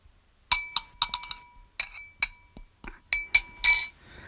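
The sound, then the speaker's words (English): Metal chains clink and jingle in a quick, irregular series of about a dozen sharp, bright rattles, some ringing briefly, as chains are put on a person's wrists. There is no talking. “You want to chain them?”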